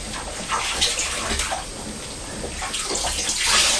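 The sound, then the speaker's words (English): Hands swish and rinse soap off in a bowl of water, producing a steady splashing and sloshing that continues throughout with small bursts of louder movement, no voices present. “Right, we've washed your body already, so just rinse your hands in the water, please.”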